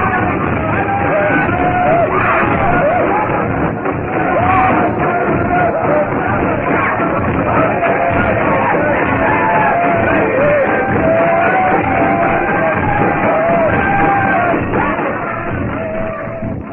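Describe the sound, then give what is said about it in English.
A frenzied crowd of natives shouts and yells in a dense, unbroken roar while dancing, many voices whooping and bellowing over one another at a steady, loud level throughout. “the gyrating, hideous dancing of the natives becomes more frenzied. Their shouts and yells carry to the jungle,”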